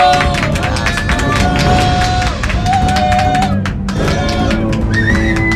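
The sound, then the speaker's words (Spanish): A crowd of people who came to a radio station applauds steadily for several seconds to welcome a guest. It is a dense patter of many hands clapping at a constant loud level, with scattered cheers and a few high whistle-like tones rising over it. “Vamos a recibirla con un fuerte aplauso.”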